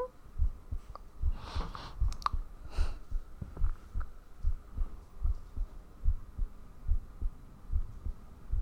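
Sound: heartbeat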